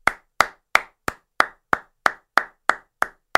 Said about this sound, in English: Small little golf clap there, but you didn't get a number one wide receiver this offseason.